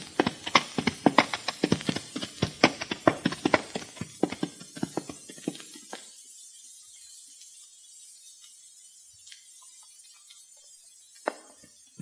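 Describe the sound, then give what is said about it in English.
Horses being ridden up a mountain trail: hooves clop rapidly and unevenly over hard ground for about six seconds, then slow to a few scattered, faint knocks and scrapes in near quiet. “Riding up these mountain trails isn't any too easy on these horses”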